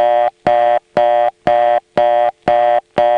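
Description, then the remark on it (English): A telephone reorder tone generated by a touchtone converter: loud, steady harmonic beeps pulsing on and off about twice a second, seven bursts in all, with only slight unevenness between them. No voices. “On the touchtone converter it still sounds steppy, but not quite as steppy.”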